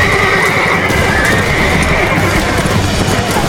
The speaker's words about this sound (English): The men turned their horses and jabbed in their boot heels.